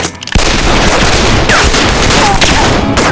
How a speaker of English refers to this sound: A second later, the snake-branded cattle were off and running, the sounds of gunfire spooking them from their quiet grazing into a stampede.